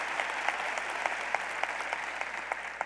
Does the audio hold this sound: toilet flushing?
no